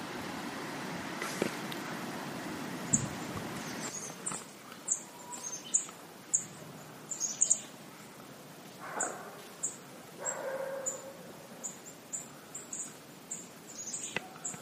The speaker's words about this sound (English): I'm just trying to give you a little bit of bird time. It's Monday, August 27th. And I'm in a place called Trout River. It's still part of Gros Morne National Park. It's quite secluded.